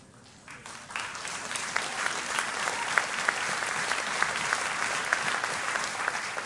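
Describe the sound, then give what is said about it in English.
An audience breaks into clapping that quickly swells into steady, dense applause, many hands beating at once in a bright, continuous patter that holds its level to the end. “You that are ready have been clapping.”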